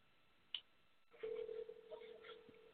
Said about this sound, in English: I'm hearing a ring. Is anybody else hearing a ring? Yeah, that's me. I'm sorry.